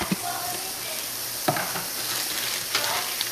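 Two small sliced onions frying in a pan give off a steady, bright sizzle, broken by a few sharp scrapes and taps as they're stirred. No one speaks.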